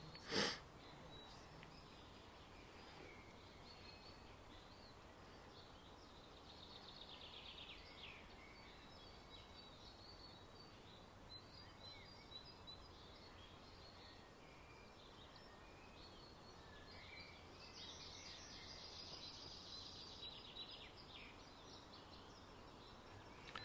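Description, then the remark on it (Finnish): Faint bird song drifts in and out over a steady hiss of outdoor forest ambience, with brief high trills clustering early and again near the end; no one speaks. “Katsotaan vielä kerran hiukan tähän ympärille ja kuunnellaan tätä linnun laulua.”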